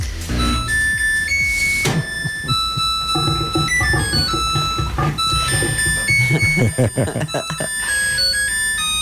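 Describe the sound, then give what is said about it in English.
A Samsung washing machine's end-of-cycle jingle plays a bright, cheerful electronic melody of high chiming notes that keeps going steadily and loudly for about nine seconds. “This is the Samsung little jingle that plays when your Samsung washer or dryer is done.”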